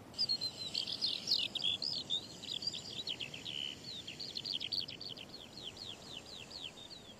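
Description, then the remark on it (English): Birdsong of a lark made of rapid, repeated high-pitched chirps in a steady, almost Morse-like rhythm, continuing throughout over a soft outdoor background hiss. “There's a kind of Morse code quality about birdsong.”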